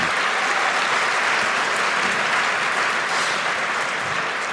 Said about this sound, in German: Vielleicht nochmal ein Applaus für die beiden.